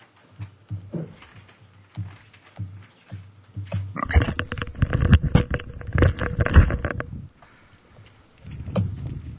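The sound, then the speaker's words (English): A tiger growls low in short rumbling pulses, then bursts into a loud, raspy roar for several seconds before settling back into a deep growl. No one speaks. “This tiger's too poofy. I need to give him a haircut. Tiger, tiger, tiger.”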